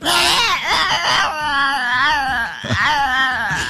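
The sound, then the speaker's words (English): A dog howls along to a song in loud, drawn-out, wavering wails that swoop up and down in pitch, with a brief break partway through before the howling resumes. “I do love the owner's use of this dog. But, man, that is something. That is not singing.”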